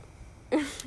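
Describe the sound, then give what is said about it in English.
A single deep, breathy exhale bursts out after a moment of near silence, airy and fairly loud with a slight throaty rasp, then trails off. No one speaks. “Deep breathing isn't an answer.”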